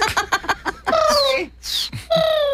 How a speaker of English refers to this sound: And but I yeah, just selected Fauna's text ringtone for my phone. Right?